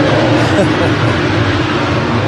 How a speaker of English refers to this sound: We have a jet fighter taking off right here on the runway next to us. So we'll continue the tram tour here once he's left the area. Sounds like a Harrier to me.